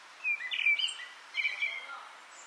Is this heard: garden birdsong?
yes